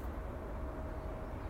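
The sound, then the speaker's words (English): A steady, distant drone of traffic on the M8 motorway between Edinburgh and Glasgow in the morning, a continuous low rumble with a soft hiss on top, even and unbroken throughout with no voices. “You can clearly hear the throng, or the thrum, or the drone of the distant motorway, the M8 running between Edinburgh and Glasgow.”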